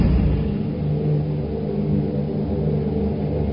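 A deep, continuous rumble of thunder rolls steadily for a few seconds, heavy in the low end and fairly loud, with no voices over it.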